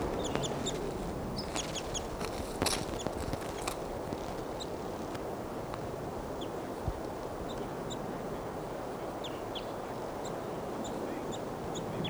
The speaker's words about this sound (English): And the Wild Bird's chittering.